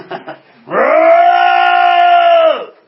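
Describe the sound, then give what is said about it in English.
A standing church audience, called on to release a roar, roars together in one loud, sustained shout lasting nearly two seconds. It is a steady wall of voices that starts abruptly after brief murmuring and fades away at the end. “And if you feel led, release that roar.”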